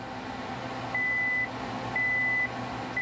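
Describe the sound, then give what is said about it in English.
A calorimeter emits steady electronic beeps, two long evenly spaced tones about half a second each, over a constant low machine hum, signalling that an electric current is about to pass through the fuse wire to burn an almond and measure its calories. “The beeping means an electric current is going to pass through the fuse wire and explode my snack.”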